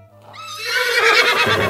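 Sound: horse neighing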